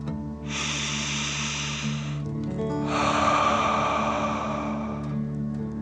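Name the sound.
deep breath in nose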